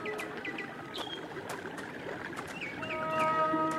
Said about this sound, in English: Up ahead is a waterfall. Hear it?